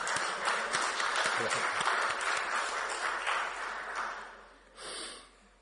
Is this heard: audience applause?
yes